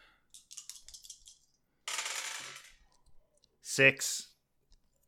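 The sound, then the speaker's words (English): Three small dice clatter onto a hard surface, first a few light clicks, then a rolling rattle that settles, followed by a brief louder sound; they come up 6, 2 and 5. “So I take 3 dice?”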